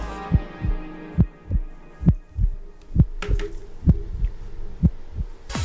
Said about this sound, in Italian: Si chiude così con un bel battito di cuore questo singolo, raccontatecelo un po'.